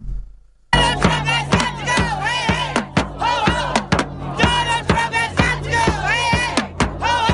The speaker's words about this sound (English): Free whistles? Oh, my gosh. That's their new thing. They just blow whistles.